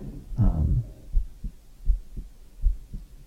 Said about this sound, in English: And I'll tell you what I'm doing to myself, and you guys can feel free to listen to my heartbeat.